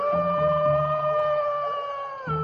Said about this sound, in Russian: Вот вошел волк Ваня в медвежий лес. Идет, воет.